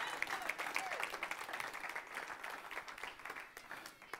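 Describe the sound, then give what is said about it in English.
A church audience applauds God steadily for several seconds, many hands clapping in a dense, continuous patter with faint voices mixed into the crowd noise. “If I had a couple people, 5 people who are excited about that, can you give God a round of applause?”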